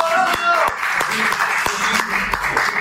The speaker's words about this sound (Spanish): y tras al menos 4 intentos de gol, Alexis Vega, el delantero de Guadalajara, sale de cambio tras su primer partido del Mundial. los parroquianos lo despedimos con aplausos.